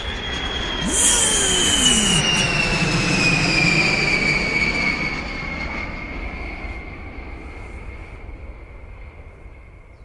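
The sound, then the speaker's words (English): A loud jet engine roars with a piercing high whine, its pitch sliding downward as the broad rumble slowly fades over several seconds, with no voices. “Mit dem Jet.”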